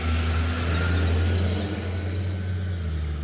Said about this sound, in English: Garbage truck.